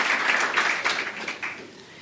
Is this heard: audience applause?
yes